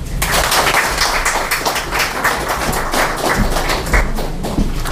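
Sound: audience applause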